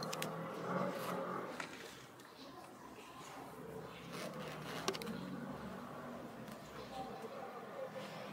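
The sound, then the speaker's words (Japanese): A few scattered, distant gunshots crack faintly over a steady noisy outdoor background, heard from a street in a town whose roads the Israeli military has destroyed, irregularly spaced with one slightly sharper report near the middle. “遠くから銃声が聞こえています。”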